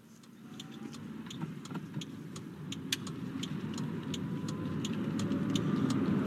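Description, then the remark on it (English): A vehicle engine hums steadily from inside a moving Korean SUV, a low rumble that grows slightly louder, with faint rhythmic clicks or ticks overhead and no talking. “This is sure a nice car, Mr. Welles. Drives like a dream.”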